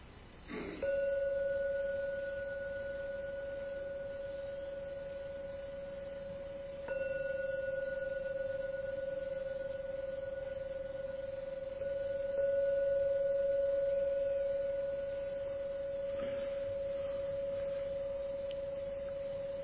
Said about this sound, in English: Now I'll do the jingle bell thing to end the meditation.